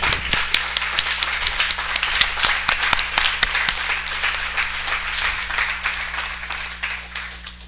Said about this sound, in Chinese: 然后 John Brady 他没在这里，我们可以鼓掌给 Connie。